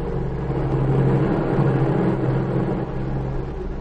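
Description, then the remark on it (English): A small airplane engine drones steadily as the plane flies over the border, a continuous low, buzzing hum with a slight pulsing rhythm and no voices, holding an even loudness throughout. “She waited until she was sure the plane was over the border.”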